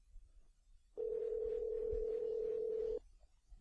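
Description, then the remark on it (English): A steady telephone dial tone on a call to Broadway McDonald's sounds loud and unbroken for about two seconds, then cuts off abruptly, leaving only faint low background rumble before and after. “So you're really concentrating on that phone, aren't you”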